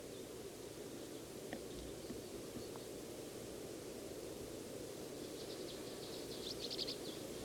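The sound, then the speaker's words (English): Faint, sharp chip calls from an adult bird, a few scattered early and then a quick cluster near the end, heard through steady hissing background noise. “One of the adults is off to the side, just made it, making chip trails.”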